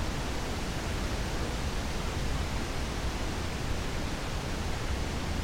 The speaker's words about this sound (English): No, there aren't exactly 1,000 waterfalls, of course. It's just a nice-sounding name. But this place is considered to be special because of how multiple tiers of waterfalls are stacked on top of one another.